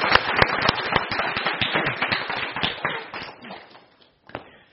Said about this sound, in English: Let's give the Lord Jesus Christ a round of applause for what he has done for us.